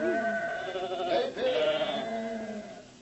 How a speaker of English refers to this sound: Often, when our father went into the field, he would find David dreaming, his eyes staring far beyond the horizon, while the sheep wandered about the hillside.